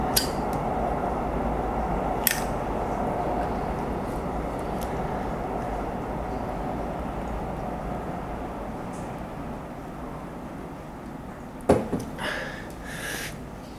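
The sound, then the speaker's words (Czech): A slow freight train rumbles past in a steady, heavy drone, with occasional metallic clanks and squeals from the wagons, louder near the end. “počkáme na vlak, já si zatím zapálím, toto bude nákladní, ten jede tak pomalu.”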